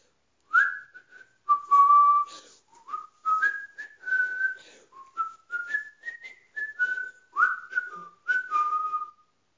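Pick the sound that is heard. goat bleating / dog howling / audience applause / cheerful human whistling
cheerful human whistling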